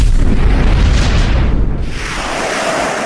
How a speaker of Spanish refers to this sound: Al rato se hincha como un globo. Explota.